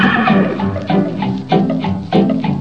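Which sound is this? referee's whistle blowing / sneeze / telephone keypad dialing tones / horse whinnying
horse whinnying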